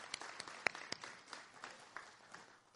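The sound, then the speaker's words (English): An audience applauds a graduate being recognized, with a steady wash of many hands clapping, dense and bright, with a few sharper individual claps standing out over the roughly three-second burst. “So if you want a round of applause”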